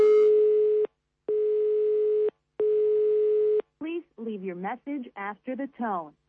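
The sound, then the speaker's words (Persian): A telephone call to a home rings with no answer: three steady, mid-pitched electronic ringback tones, each about a second long with short gaps, followed by a person talking. “در این منزل کسی گوشی رو نمی بردارد، شاید کسی نیست، همه به تماشای شهر برآمدند، شاید در بیرون جشن میگیرند سال نو رو و شاید موسیقی بلند است و کسی نمی شنود صدای گوشی رو.”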